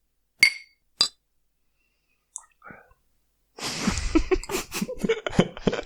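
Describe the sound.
Two bright, ringing clinks of glasses touching in a toast with Tuborg beer, about half a second apart, followed by a brief quiet, soft rustling, and then people talking over some noise.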